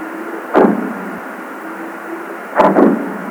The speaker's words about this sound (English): These are the sounds of underwater bombs off the coast of California set by fishermen to scare sea lions away from their catch. But if you listen carefully, you can also hear the call of a humpback whale.